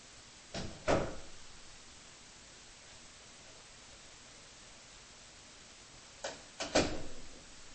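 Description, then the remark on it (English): Two short clusters of knocks and clatter, like a door being handled and shut, one near the start and one near the end, over a steady hiss with nothing in between. “So let me close the door real quick.”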